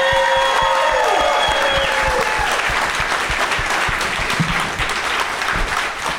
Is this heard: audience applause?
yes